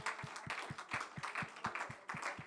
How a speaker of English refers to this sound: Can we give the Lord a hand clap of thanks together? Praise God, praise God, praise God.